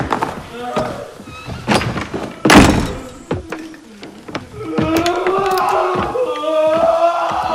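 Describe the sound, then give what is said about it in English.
A heavy quiet room door thuds shut with a loud bang and is padlocked, amid clattering knocks and metallic rattles, while agitated voices cry out and wail in the background throughout. “closes the quiet room door, and padlocks it.”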